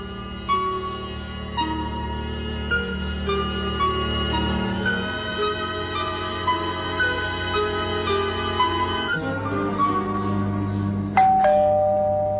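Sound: doorbell ringing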